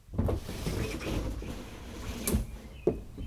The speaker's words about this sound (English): Waking to the creak of my bedroom window opening.